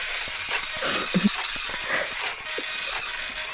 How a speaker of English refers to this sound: It's quite a slow printer, I'm afraid. It's a really slow printer. It's an old one. It's printing out the scores now.